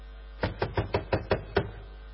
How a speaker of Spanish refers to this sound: ¿Quién es? Golpean la puerta. ¿Quién puede ser?